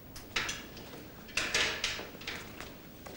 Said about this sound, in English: Bridget knocks on Daniel's glass door.